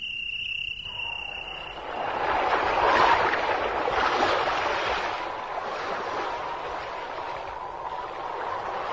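A steady rush of sea waves and wind heard aboard a ship bound for the port of Tunis, swelling in after a brief high thin whine and holding as a continuous, moderately loud wash.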